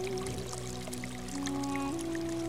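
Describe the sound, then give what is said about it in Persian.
Water pours steadily into a waterskin, a continuous gurgling stream whose hollow tone slowly rises in pitch as the waterskin fills, with no voices present. “سوار در مشک را می گشاید و گلوی آتشناک مشک را به خنکای آب زلال می سپارد.”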